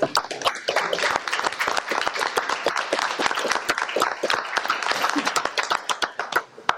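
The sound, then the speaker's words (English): Sustained applause from a crowd of people honoring a retiring manager, dense overlapping claps continuing steadily for several seconds, with no talking over it. “Guys, can we just honor Sean with a round of applause?”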